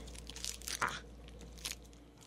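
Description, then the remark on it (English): Crinkly plastic tube of a sugar-free flavor ice pop being ripped open at the top: a burst of sharp crackling and ripping noises, then a brief pause and one more crisp tear, with no one speaking. “So we got the, you know, those, when you were a kid, those little popsicles that came in little plastic tubes, and you had to rip open the top.”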